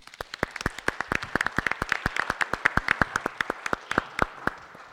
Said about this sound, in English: A round of applause.